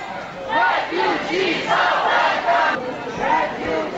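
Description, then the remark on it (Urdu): A large crowd chants welcome slogans in unison at a rally in solidarity with refugees, held in Vienna and Sweden. Loud voices rise and fall in a steady rhythmic cadence, with a few brief pauses between phrases and an outdoor rally feel. “Vienna اور Sweden میں بھی پناہ گزینوں کے ساتھ یکجہتی کے لیے ریلی نکالی گئی اور خوش آمدید کے نعرے لگائے گئے”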